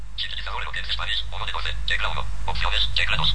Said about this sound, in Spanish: Eloquence Spanish, ¿sí? Es el sintetizador que está usando en este momento el teléfono.